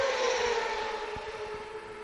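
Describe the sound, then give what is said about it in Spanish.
Moto2 racing motorcycle engines whine at high revs in a steady, continuous drone during a practice session at the Cheste circuit, heard from the second row of the starting grid, with no one talking. “Deja que suenen las motos un rato, ahí, ¿eh? Que como vamos se escucha.”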